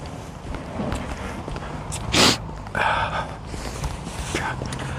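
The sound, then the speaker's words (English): A couple of sharp nasal sniffs stand out over a steady background hiss, with softer sniffs following and faint shuffling footsteps underneath, as a person wearing gloves walks along with a runny nose. “I don't want to take my glove off to wipe my nose, but I don't want to walk along sniffing.”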